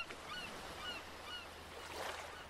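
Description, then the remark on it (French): Several seagull cries ring out from rocks on a beach not far away, over a steady wash of surf, the calls faint and scattered against the soft rush of waves. “Le silence est rompu par le chant des mouettes.”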